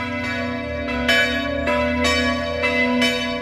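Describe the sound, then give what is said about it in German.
Church bells peal steadily, with strikes landing roughly every half second to second and rich humming tones ringing on between them. The ringing is loud, with no voices. “Ich rufe wegen der Kirchenglocke an.”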